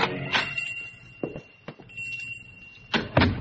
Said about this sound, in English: Strand is standing in front of the window of a pawn shop in the oldest part of the city. There is the usual collection of odds and ends on display, and also some items that are rather unusual. On a sudden impulse, he pushes open the door and goes in.